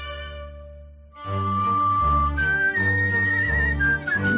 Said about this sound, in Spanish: lo que hace, lo que es capaz de hacer silbando.